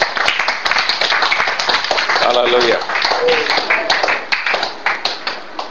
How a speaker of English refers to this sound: Praise the Lord. Well, let's give Jesus a clap offering.